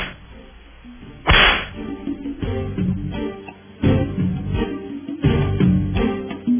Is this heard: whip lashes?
yes